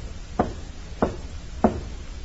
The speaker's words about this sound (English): A man steps out and walks to a side door of one of the buildings. He knocks, pauses, then knocks again.